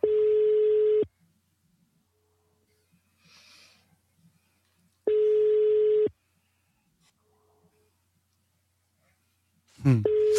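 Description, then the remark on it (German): A telephone ringback tone sounds twice, each steady one-second buzz followed by a long silent pause, fairly loud and clear, with faint breathing in the gaps and a voice starting at the very end. “Oh, das ist ein Freizeichen.”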